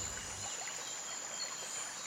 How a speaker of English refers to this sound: I hear it! The river!